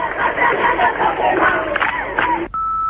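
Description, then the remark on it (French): A loud crowd of protesting nurses shouts and chants together in a dense, continuous roar of many voices, cut off abruptly and replaced by a steady, high electronic tone. “Les manifestations ne font que commencer.”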